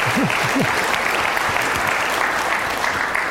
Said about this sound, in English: So here, it's true, we could clap at that. Thank you, UCSD.